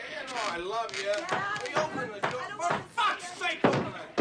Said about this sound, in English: Inside, a man bangs on a door. The clean-shaven man strides down a hallway and knocks on another.